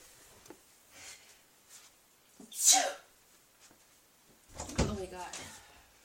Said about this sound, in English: I gotta blow my nose. Hold on. I gotta blow my nose.